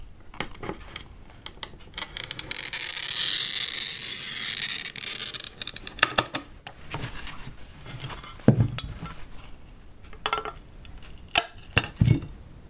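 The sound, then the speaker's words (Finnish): A window glass pane is scored with a steady, high scratching hiss lasting a few seconds, followed by scattered sharp clinks and taps of glass being handled and snapped, as the glass is cut to measured size to replace a broken pane. No talking. “Joo, jos tosiaan lasiruutu on mennyt rikki, niin joutuu leikkaamaan mittojen mukaan. Merkitään mitat ja leikataan lasi.”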